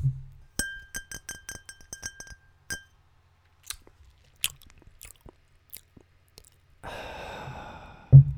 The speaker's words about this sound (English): Those dudes will not hesitate to talk, to stop a conversation midway and just take a big old fucking sip. Nice long one.